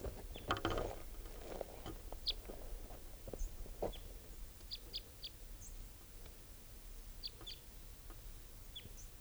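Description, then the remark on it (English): A bird gives type 3 calls, a series of brief, high-pitched call notes, spaced irregularly and sometimes in quick pairs, over a steady low rumble with a few soft knocks early on. “Just collected that bird, and he'll be bird 633, and there's the third type 3 calling now.”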